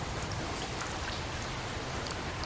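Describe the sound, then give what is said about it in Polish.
Steady rain falls continuously on dark, cold streets, a dense even hiss with scattered brighter drop taps on a surface, moderately loud, with no voices. “Ciemność na ulicach, deszcz, zimno.”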